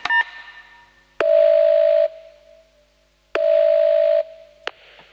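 A telephone line with a steady electronic tone sounding in two long bursts, broken by sharp clicks and short beeps like keys being pressed as a call is dialed. Fairly loud, and no one speaks.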